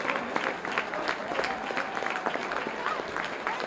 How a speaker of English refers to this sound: So, we just have a massive round of applause